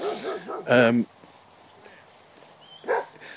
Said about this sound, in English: Uh-oh. We do have what looks like a loose dog.